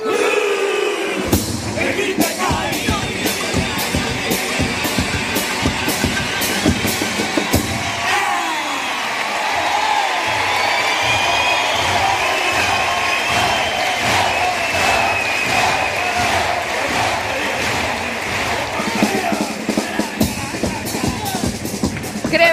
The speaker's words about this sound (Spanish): Pues sí, cómo ha entrado el personaje y esta presentación. Gran ovación por parte del Gran Teatro Falla a este personaje, el Grinch de Kai,